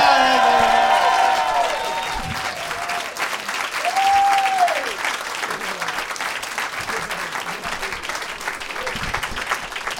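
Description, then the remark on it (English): An audience at a comedy show applauds steadily for about ten seconds for comedian Josh Wolf, with loud cheering and whoops at the start and a rising, falling whistle partway through before the clapping carries on alone. “Guys, keep it going for Josh Wolf.”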